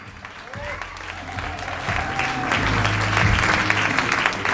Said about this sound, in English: Thank you for the polite applause.